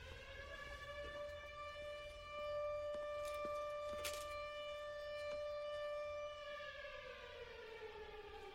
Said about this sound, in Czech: a za třetí se najednou rozezní sirény.